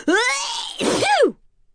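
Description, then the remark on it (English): A voice performs a theatrical sneeze, a drawn-out rising "ah" followed by a loud, sweeping "choo", clear, then silence. “Sneezes travel as fast as a car, 40 miles per hour.”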